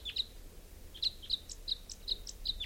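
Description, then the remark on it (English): A wild bird gives a run of short, high, bright chirps, about seven in under three seconds, repeated at a fairly steady pace over a low rumble of background noise. “Here's a wild bird.”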